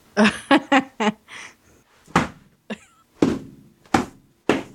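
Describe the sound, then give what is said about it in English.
A burst of four quick plastic whacks, then a few louder, sharper smacks spaced out irregularly, as Cooper's toy diamond Minecraft sword is swatted at a bee. No one speaks. “That was actually Cooper's diamond Minecraft sword, which has finally come in.”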